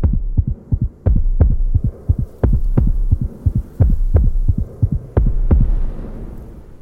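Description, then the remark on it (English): A fast, heavy heartbeat thumps steadily in a man's ears, its paired low beats repeating in a driving rhythm over a deep, droning hum with no voices. “All he can hear is his heartbeat thumping in his ears like a cannon.”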